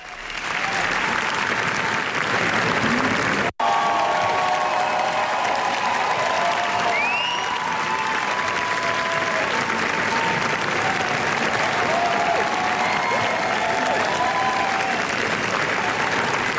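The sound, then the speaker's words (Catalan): Sustained, dense applause from a large audience at the Cannes premiere of the film La Bola Negra by Los Javis, an ovation lasting nearly 20 minutes, fills the whole stretch, steady and loud, with faint whistles and cheers rising above the clapping now and then. “I així, durant gairebé 20 minuts, en una de les ovacions més llargues i emocionades d'aquesta edició de Canes, el públic ha convertit l'estrena de La Bola Negra dels Javis en tota una fita històrica.”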